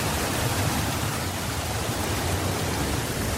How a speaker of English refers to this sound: With the camera pretty close to the water, actually to some area of the water where there's bubbles coming out, so that might add some nice texture as well.